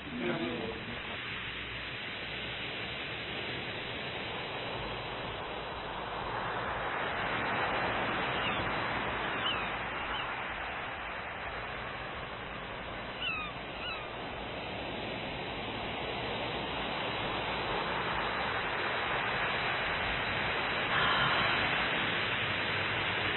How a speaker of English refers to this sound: We hear the waves of the ocean outside, and rising up out of the water at this time is an image of the holiness of God in whatever form it appears to us.